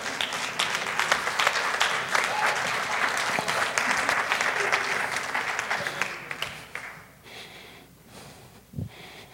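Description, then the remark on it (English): A church audience bursts into sustained applause for Jesus, a dense wash of many hands clapping steadily for several seconds before thinning out and fading toward the end, with a faint breathy sound at the close. “Go ahead and applaud Jesus.”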